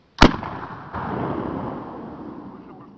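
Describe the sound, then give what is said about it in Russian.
One sharp, loud gunshot cracks out, followed by a long rolling echo and rumble that slowly fades away. No one speaks. “В этот миг раздался выстрел.”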